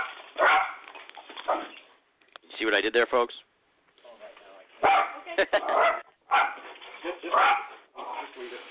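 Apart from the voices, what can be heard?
dog barking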